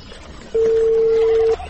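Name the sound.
telephone dialing tones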